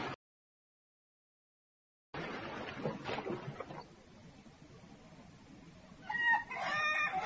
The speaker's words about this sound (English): Look at those ducks over there. Yes, let's feed the ducks. Have you got the bread? The ducks are coming now. They're hungry.